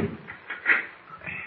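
Scraping metallic slides as the bolts on a door in a wall are drawn back, a couple of short grating strokes with one louder pull in the middle, and no voices.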